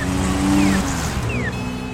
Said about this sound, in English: All you have to do is stand on the corner of Massachusetts Avenue and Boylston in Boston, and you will hear the clanging and the traffic and the sirens.